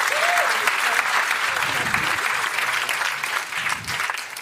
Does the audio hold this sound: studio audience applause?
yes